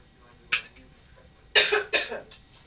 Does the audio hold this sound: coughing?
yes